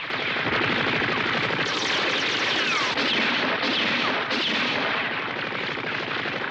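A sustained volley of rapid gunfire aimed at Bora, dense overlapping shots crackling continuously at high volume for several seconds with no pauses, like multiple automatic weapons firing at once.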